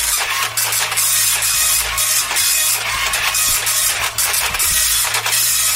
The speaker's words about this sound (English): Quite a slow printer, Ed, I'm sorry. Apologies again, it's very slow.